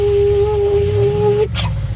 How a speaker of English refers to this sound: Opening the garage door.